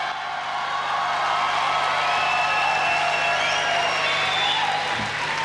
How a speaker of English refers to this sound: She races to the stage to give her acceptance speech, but not without first holding her award triumphantly over her head. As you can hear, the crowd is loving it.